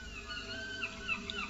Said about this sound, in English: Ooh, I hear some seagulls. You hear the seagulls, yeah. Where are they coming from? Well, we're just on the edge of the English Channel and the Atlantic here.